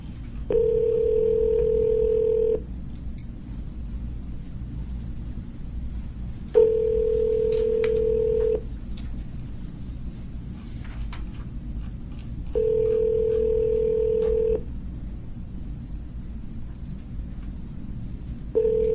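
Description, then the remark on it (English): A phone call ringing out on the line: steady two-second ringback tones repeat every six seconds or so, three full rings and the start of a fourth, over a low constant hum. “Would you like me to give her a call?”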